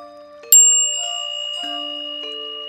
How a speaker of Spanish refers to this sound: Y así poco a poco vamos conectando hasta llegar a realizar nuestro mantra, que iniciará con el sonido de la campana, retornando en el momento que la campana vuelva a sonar.